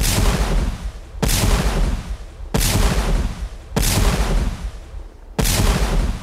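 cannon fire

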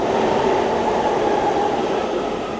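subway train in station

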